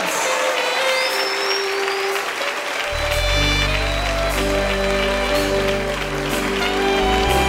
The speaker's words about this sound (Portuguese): Vamos aplaudir a Jesus porque ele é digno, aleluia!